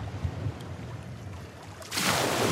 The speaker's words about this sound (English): Is that you jumping in the water, Jenny? What is that? Or is that a wave? That's a wave.